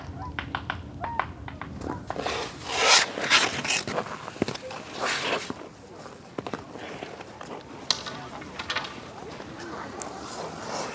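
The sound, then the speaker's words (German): Whooper swans give hoarse, bugling honks over a steady outdoor hiss while woodpeckers' sharp taps and short bursts of knocking punctuate the scene at irregular intervals, at Haarsteinsee in the Schorfheide-Korin Biosphere Reserve, Brandenburg, Germany, on 4 January. “Singschwäne und Spechte.”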